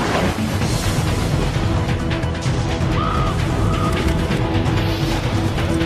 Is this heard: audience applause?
no